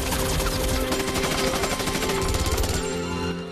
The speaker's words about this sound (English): The mercenaries fight their way under heavy fire through debris and buildings.